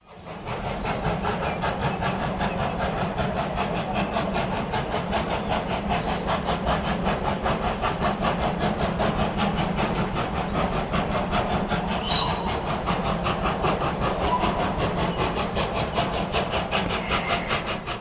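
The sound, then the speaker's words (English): A train runs steadily on the rails, its dense, continuous rumble and hiss laced with a fast, regular clatter of wheels over track joints, loud for the whole stretch. “It's the nostalgia of the train journey.”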